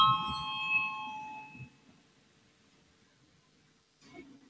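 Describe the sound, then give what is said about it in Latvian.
A single electronic bell chime rings out clearly in a parliament chamber before a vote and fades over a second or so, leaving quiet with faint murmuring and a brief rustle near the end. “Lūdzu zvanu, balsosim par 37.”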